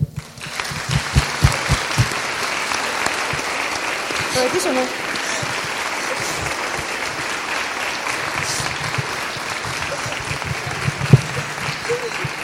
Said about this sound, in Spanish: Y esta tarde, sus cuatro nietos, queremos pediros el aplauso más fuerte para él, que se oiga allí donde esté.